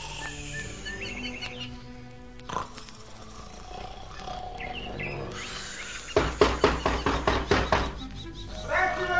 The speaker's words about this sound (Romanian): Cei doi frați ai lui Păcală au încuiat ușa și s-au culcat pe laviță. Și acum, după cum auziți, sforăie de parcă ar avea zbârnăitori în nas.